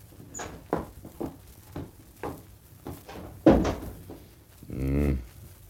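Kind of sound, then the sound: household object, door opening and closing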